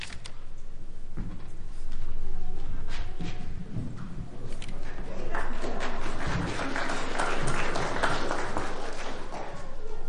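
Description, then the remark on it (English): An audience applauds the young people who read the scriptures: steady crowd clapping with a dense crackle of overlapping claps that holds at a fairly even level for about ten seconds, with a low murmur underneath. “I was going to say, I know we don't normally applaud the scripture readers, but aren't we proud of our young people there?”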